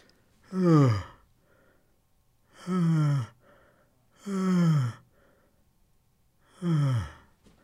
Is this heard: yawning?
yes